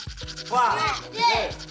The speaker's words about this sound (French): Donc attrape ta brosse à dents, ton dentifrice... Allez, tu frottes. Jusqu'à ce que l'histoire soit terminée.